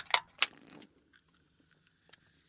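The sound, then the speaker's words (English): Two quick slurping sips of a Henry's passion fruit drink in rapid succession, followed by a quiet pause and one more faint sip near the end, with no one talking. “Oh, you both sip before me.”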